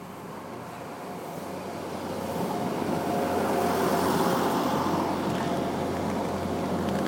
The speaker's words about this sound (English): Look at the train now.